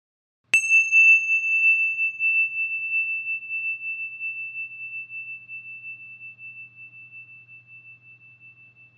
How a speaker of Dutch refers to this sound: Als zometeen de bel gaat, dan kan je je ogen sluiten en dan zal ik nog wat verder uitleg geven over deze oefening.